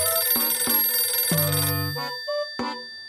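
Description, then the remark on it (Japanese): A telephone rings with a bright, bell-like chime: several struck tones in quick succession, the last ones ringing out more sparsely, fairly loud, with no voices. “あ、電話だ。”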